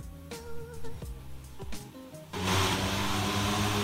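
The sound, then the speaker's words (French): A flying car's engines hum and whine with a few clunks, then abruptly surge into a loud, steady, overpowering roar of rotors as it lifts off, heard in a video. “Eh, tabarnouche, c'est noisy en tabarn... Ça, là... Excusez-moi, là, mais les voitures volantes, là...”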